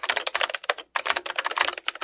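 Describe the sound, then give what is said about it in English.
Rapid, clacky keystrokes on a mechanical keyboard, a steady burst of typing with a brief pause partway through, fairly loud with no voices. “That's a mechanical keyboard.”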